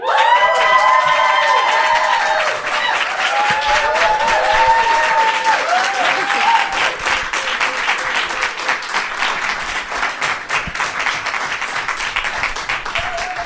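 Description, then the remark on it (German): An audience bursts into loud, sustained applause for a guest on stage, with cheering and high whoops layered on top, the clapping dense and continuous before slowly thinning toward the end. “Gebt einen herzlichen Applaus für Bella.”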